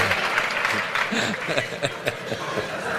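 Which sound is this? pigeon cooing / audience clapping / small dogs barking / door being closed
audience clapping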